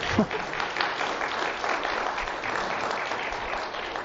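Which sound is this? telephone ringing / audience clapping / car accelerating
audience clapping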